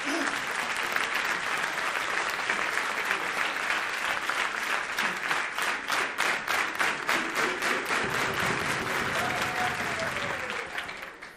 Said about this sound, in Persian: تشویقش کنیم.